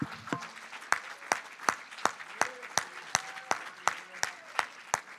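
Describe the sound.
An audience at a church service claps their hands together to give God praise, in a steady, even rhythm, sharp unison claps about three per second, with faint voices murmuring underneath.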